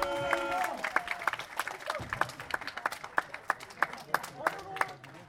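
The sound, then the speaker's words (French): An audience claps steadily for new arrivals in a dense patter of sharp hand claps that continues throughout, with a few voices calling out over the applause. “Des nouveaux arrivants, on applaudit encore la fois.”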